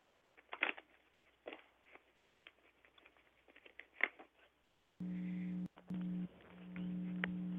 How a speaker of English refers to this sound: Then I'm going to shuffle my cards. So hang on a second.